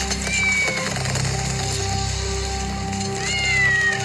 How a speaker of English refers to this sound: My little kitty, kitty, don't be a scaredy.